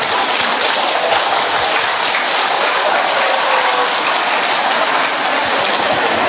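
An audience applauds a four-month-old baby presented with its parents. The clapping is a dense, steady wash of applause that stays loud and even for about six seconds, with no voices rising above it.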